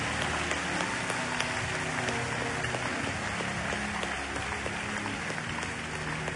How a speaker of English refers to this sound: Let's keep clapping until they leave. What a harvest tonight. We give Jesus praise. The way you are clapping is the way they will clap for you as your blessings come.